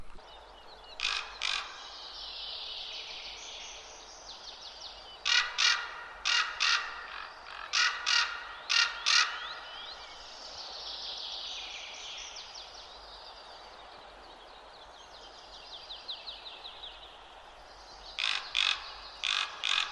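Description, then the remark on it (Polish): Repeated harsh, croaking calls of common ravens come in short bursts of several notes, separated by pauses, with softer rasping sounds between them, as the ravens fly along the tree crowns and perch in the trees; no one speaking. “Zobaczcie i posłuchajcie mojego spotkania z krukami.”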